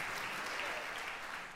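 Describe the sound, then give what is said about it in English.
An audience applauds a tenor sax soloist: a dense, steady wash of many hands clapping at an even, moderate level, with no one talking over it. “Soloists and plunger mutes, you can always applaud.”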